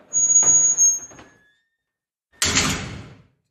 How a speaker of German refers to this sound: Mach mal die Tür richtig schön zu, das hört man so schön. Ganz ehrlich, wenn ich hier im Knast sitze und höre die Tür, ne, wie die aufgeht, da schaudert's mir schon.